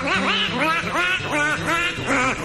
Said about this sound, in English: Why, yes. Yes, there is. And it's known by the descriptive moniker black-bellied whistling duck. Guess they didn't have room to get pink into the name.